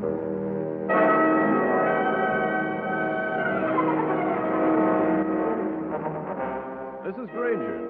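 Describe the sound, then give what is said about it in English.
A car engine roars on a highway as tires let out a long, tonal screech, the squealing pitch wavering and bending toward the end as the car swerves and skids off the road. “When that car crept up from behind and suddenly swerved towards me, I had to think fast. My car skidded off the road and came to rest nudging its nose against a drain”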